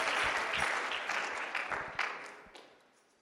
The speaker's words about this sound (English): You can give God a hand clap of praise and you may be seated.